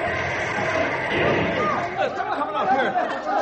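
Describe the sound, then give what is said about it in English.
A crowd of bus passengers breaks into agitated, overlapping chatter and exclamations after the bus swerves, a dense continuous commotion of many voices with no single speaker standing out. “Quiet down, take it easy. There's no serious damage done to the bus.”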